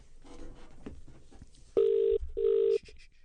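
A telephone ringback tone on an outgoing prank call sounds twice in steady, even bursts with a short gap between, loud and clear after a stretch of faint background noise.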